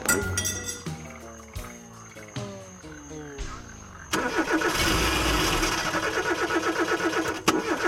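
A dense chorus of frogs croaks in a Florida swamp in steady, rapid pulses from about the midpoint on. Before it, a car makes a mechanical sputter with falling tones as it runs out of battery and comes to a halt. No one speaks.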